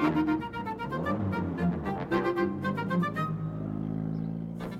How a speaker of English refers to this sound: "I can make a noise like a car," said the dinosaur. "Honk, honk, honk."